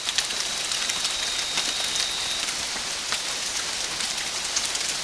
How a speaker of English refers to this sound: Spotify's ambient nature tracks, such as this sound of tropical rain from Colombia